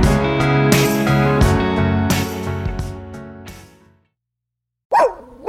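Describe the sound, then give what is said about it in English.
A single sharp dog bark rings out loud after a few seconds of music and a brief silence, cut off right at the end. “You hear that? Your dog knows.”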